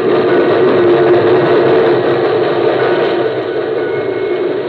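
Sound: steam locomotive rushing past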